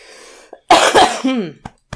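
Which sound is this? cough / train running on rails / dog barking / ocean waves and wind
cough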